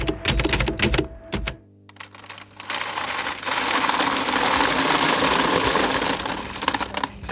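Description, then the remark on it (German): Coffee beans rattle into a paper bag at a package-free shop in Paderborn, Germany, first a few sharp, scattered clicks, then a steady, dense pouring clatter that keeps going, fairly loud, with no voices. “Eine nach der anderen purzeln die Kaffeebohnen in die bereitgestellte Papiertüte.”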